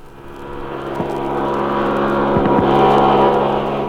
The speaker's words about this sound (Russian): Следующий эксперимент – центрифуга. Признаться, я очень боялась тогда этого опыта. Проходил он вот так.